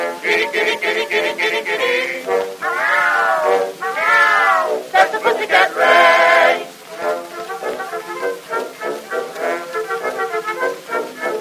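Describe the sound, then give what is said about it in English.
Cats beneath a window at midnight meow and caterwaul in a loud, continuous string of drawn-out, wavering yowls that rise and fall in pitch, the cries overlapping and running together with no pauses. “Underneath my window at 12 o'clock at night, they either serenade the moon or else they'll start a fight.”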